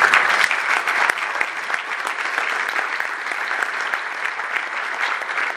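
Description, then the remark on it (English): A crowd claps steadily for several seconds, a dense, even patter of many hands with no one speaking over it, holding a fairly constant loudness throughout. “a round of applause.”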